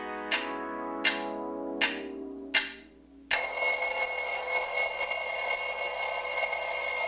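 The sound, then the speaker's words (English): Four evenly spaced bell strikes ring out and decay, then a loud, continuous metallic bell rings without pause until the end. No voices are heard. “And with that bell, it marks the end of this episode of Girly So Groovy.”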